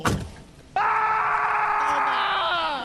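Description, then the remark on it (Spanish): A dull thud as a heavy marble gravestone falls on a man's foot, then after a brief pause he lets out a loud, sustained scream of pain, held for about two seconds and trailing off slightly at the end, with no talking. “El grito de dolor.”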